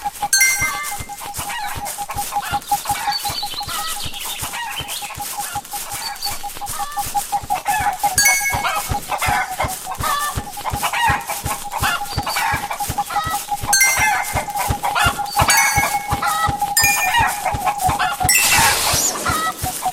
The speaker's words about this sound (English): Yep, chicken's getting faster.